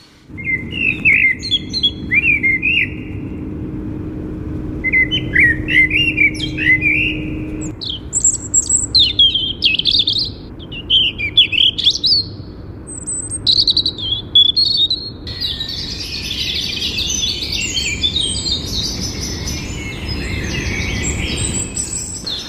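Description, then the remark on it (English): Blackbird and robin song, recorded at the Foundling Museum, ring out in fluting, warbling phrases, then swell into a dense dawn chorus of overlapping chirps and trills over a steady low hum, with no voices. “And here's the first Blackbird and Robin song recorded there, followed by the full dawn chorus.”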